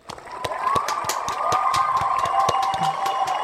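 crowd cheering

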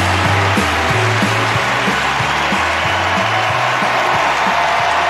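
audience clapping

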